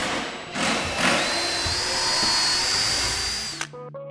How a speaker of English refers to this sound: So there's two benches and a bookshelf happening. Everyone's using drills and drivers. They're working in small teams.